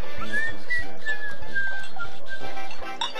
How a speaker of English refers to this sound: Say, what's a girl gotta do around here to get some attention? Well, you gotta do more than whistle.